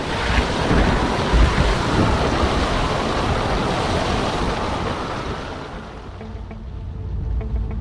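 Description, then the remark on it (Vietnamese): Giant tsunami waves sweeping across the continents crash in a loud, continuous roar of churning water and wind-like rushing, easing slightly near the end before swelling again, with no voices. “Điều này sẽ gây ra những cơn sóng thần khổng lồ quét qua mọi lục địa và nhanh chóng biến hành tinh của chúng ta thành một thế giới toàn nước.”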